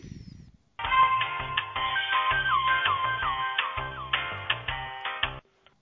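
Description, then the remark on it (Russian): A telephone line plays a melodic ringing tone while an unanswered call is transferred from the Shushary office to the central office, a steady electronic tune that continues for several seconds and then cuts off abruptly. No one speaks. “Я вдруг услышал твой голос, не понял почему, а потом сообразил, что если там не берут трубку, перевод идет с шушарского офиса на центральный.”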